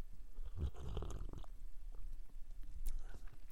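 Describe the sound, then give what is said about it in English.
A quiet slurping sip of hot Mystic Monk Candy Cane Coffee, followed by a few soft wet mouth and swallowing sounds, with no talking. “I need to have another sip.”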